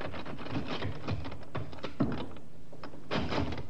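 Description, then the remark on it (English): A metal door handle on the door of Colonel Reed's place of business in a small village rattles and clicks several times, then the unlocked latch gives way and the door is pushed open, with no voices. “The sergeant tried the door.”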